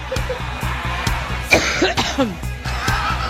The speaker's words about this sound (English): It's not so bad to cough when you're on the campaign trail, but it was so well mic'd. It was so clearly mic'd.